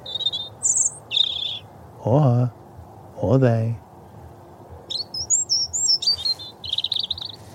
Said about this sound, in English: Analyzing. Oh, that's a robin. Erythacus rubecula. Cheerio, robin.